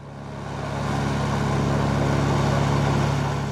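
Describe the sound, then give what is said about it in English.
A Russian army helicopter flying low over the Siberian forest, bringing troops to fight forest fires in summer 2019: a loud, steady engine-and-rotor drone with a deep humming core that swells in over the first second and then holds constant, with no voices. “That was a Russian army helicopter flying low over the Siberian forest.”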